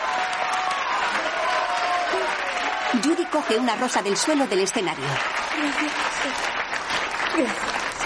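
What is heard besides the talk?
theater audience applauding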